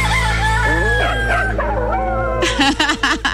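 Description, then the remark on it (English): A rooster crows loudly and close by, its long wavering call drawn out over a couple of seconds, with a dog seemingly howling along before a burst of sharper squawks at the end. “Everybody wants to get in on the action when they hear roosters crowing”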